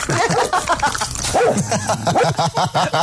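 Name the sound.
dog barking and yipping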